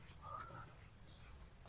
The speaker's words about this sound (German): Hört ihr die Vögel? Oder hören nur wir das Gezwitscher? Schön ist es, oder? Es ist halt wirklich idyllisch. Es hat geregnet, also die Erde ist ein bisschen feucht, die Luft ist kühl.